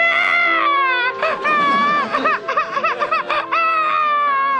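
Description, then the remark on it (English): A small girl wails loudly and continuously, breaking into rapid sobbing bursts midway before a long, high cry at the end, with no other sounds. “Now you've made her cry.”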